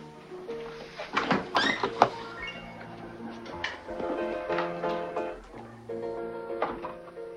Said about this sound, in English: Petrovita pushes the door completely shut as Rocca sits.